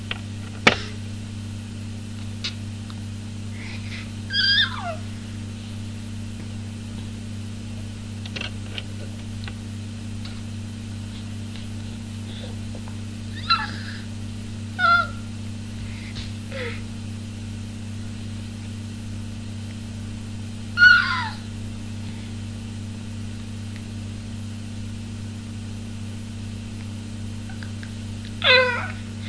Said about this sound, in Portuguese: com 5 meses feitos ontem, e conversa agora é só gritinhos e gargalhadinhas. Assim.